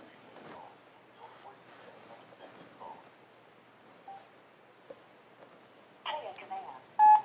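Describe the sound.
Telephone keypad dialing tones as a phone call is placed by voice command: a few short, loud electronic beeps clustered near the end, following a stretch of faint, muffled voices and low background noise.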